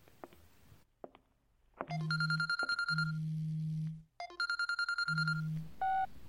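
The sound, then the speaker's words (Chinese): A phone rings in the early morning in repeated electronic bursts, each a buzzing low tone layered with bright chiming harmonics, three rings with short gaps, loud, with no one talking. “怎么大清早的想起给我打电话了？”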